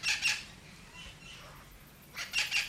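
Harsh, raspy squawks from parrots near a release cage, whose noise attracts local wild birds, come in two loud bursts at the start and end, with fainter calls in between, against a quiet outdoor background and no talking.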